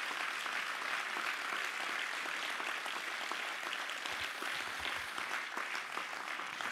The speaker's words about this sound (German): Und deshalb nochmal ein Applaus an sie. Vielen Dank.